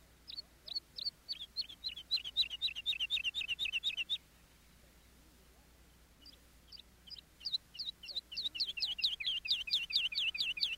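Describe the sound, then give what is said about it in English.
Skylark song: a rapid, high stream of repeated chirping notes for about four seconds, a brief pause, then the bright warbling resumes and grows fuller. Clear, with no talking. “Romeo claimed the bird was a lark.”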